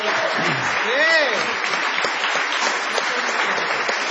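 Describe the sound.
A crowd applauds steadily, a dense, even wash of clapping that holds for several seconds, with a few brief voiced tones rising and falling early on.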